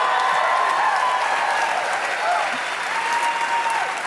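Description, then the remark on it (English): A large audience at a live show in St. Paul celebrating the career of Lynn Rosetto Casper applauds, dense steady clapping holding at an even loud level for about four seconds, with faint cheers mixed into the roar. “Clap a little less.”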